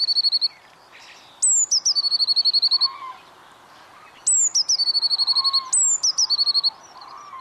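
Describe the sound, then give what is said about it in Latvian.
Great tit song: four bursts of quick, repeated high-pitched two-note phrases, clear and fairly loud, separated by short pauses over a quiet background with no talking. “lielā zīlīte ir tā, ko mēs dzirdam visbiežāk un visagrāk.”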